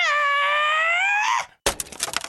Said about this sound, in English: Because I did make a few new cut or transition sound effects. For example, we could use this one instead.